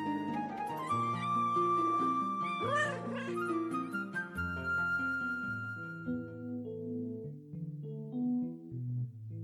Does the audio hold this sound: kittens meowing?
yes